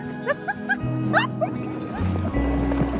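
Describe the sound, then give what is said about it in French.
Outdoor ambience on the water from an inflatable boat in summer in southern Germany, with a steady low rumble and gentle lapping, short bird-like chirps scattered above, and faint voices while someone swims. “Salut Caroline, je suis sur un bateau gonflable avec mon frère. My husband is swimming. Mon mari nage, on est sur l'eau.”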